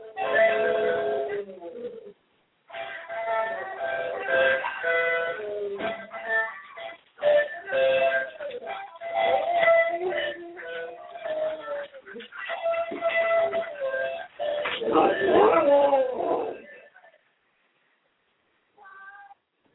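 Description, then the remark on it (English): A male dog, prompted by its owner, howls in a series of loud, drawn-out wavering howls, each lasting a few seconds with brief pauses between, before falling quiet near the end. “I'm going to get him to howl some more while you're doing your thing.”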